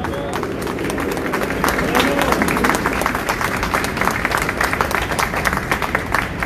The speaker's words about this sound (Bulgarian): Аплодисменти за тях!